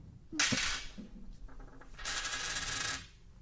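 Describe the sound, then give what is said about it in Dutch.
A coin is flipped for heads or tails in front of a microphone and lands with a sharp metallic clatter, a few light ticks follow, then a longer ringing, rattling spin as it wobbles to rest, landing heads. No one speaks. “ik draai hem wel even voor de... Oh ja, voor ja. Het geluid. Even de microfoon erbij.”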